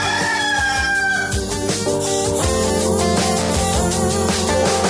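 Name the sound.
rooster crowing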